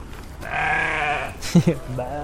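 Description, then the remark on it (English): A goat lets out one long, wavering, nasal bleat lasting nearly a second, followed by a few shorter, lower vocal sounds. “There's some sparrows bathing. And the goat.”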